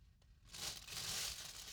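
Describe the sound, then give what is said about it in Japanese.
Continuous rustling and crinkling as plastic-wrapped food ingredients, including enoki mushrooms, carrots and oysters, are handled and moved aside. It starts abruptly after a brief quiet moment and continues steadily, with no one speaking. “じゃあ、ガサガサしちゃうから、食材はちょっとこっちに置いて”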